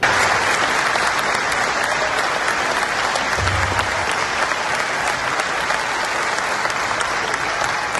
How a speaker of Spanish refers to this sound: Ella, de acuerdo con el aplausómetro, alcanzó prácticamente en 19 ocasiones la ovación por parte de los asistentes.